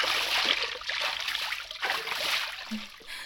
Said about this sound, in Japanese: さあ、泡を流すぞ。